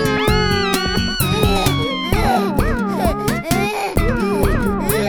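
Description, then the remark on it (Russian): A child wails loudly and continuously, with rising and falling sobbing cries layered over a rhythmic musical backing with a steady beat throughout. “Ну что ты плачешь, чучело?”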